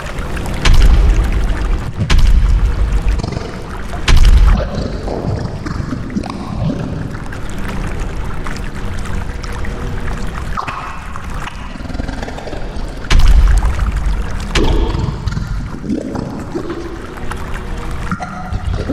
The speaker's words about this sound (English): The water! Get in! Oh, it's nearly up to our chest.